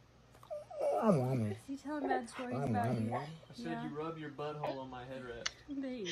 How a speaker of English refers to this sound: Look at this dog that is being judged by his owner. And in return, the dog is not having it. Not having it.